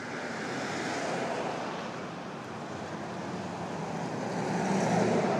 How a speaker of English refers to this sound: Suddenly a lot of activity has arrived all at once here. Cars driving past, people walking past, bicyclist, Uber, and it's just pulled up.